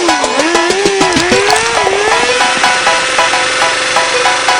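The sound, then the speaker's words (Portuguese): A loud engine roars and revs, its pitch climbing and dipping before settling into a steady, throaty drone with a rapid pulsing rumble. “Aí novinha, sente só o ronco do motor.”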